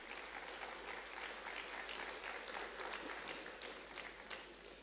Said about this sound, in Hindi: इसलिए दीदी जी के लिए एकदम जोरदार तालियां बजाएंगे हम।